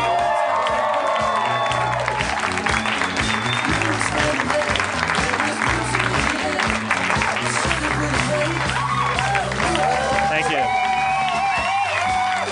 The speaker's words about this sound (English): You're applauding yourselves. You're applauding yourselves.